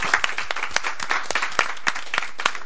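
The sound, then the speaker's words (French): An audience applauds with a steady burst of overlapping hand claps, fairly loud and brisk, with sharper individual claps poking out of the dense patter. No one speaks. “Ok, super, bah, bravo, applaudissements.”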